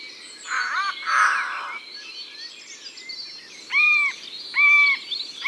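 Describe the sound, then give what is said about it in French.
A bird gives strange, odd alarm calls warning all the animals to beware: first a harsh, buzzy double call, then after a pause two short, loud, arching nasal notes, with faint background ambience and no talking. “Oui, et comme ça il prévient tous les animaux qu'il faut se méfier. Écoute. Il aime bien faire des bruits bizarres aussi.”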